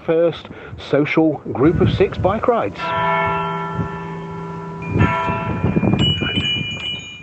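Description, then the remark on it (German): A bell rings out on a village square in England before a six-person bicycle tour, with a sustained, shimmering tone that hangs in the air for a couple of seconds, while people talk before and after it. “Wir warten jetzt darauf, dass die Glocke läutet und dann geht es los zur ersten 6-Leute-Fahrradtour.”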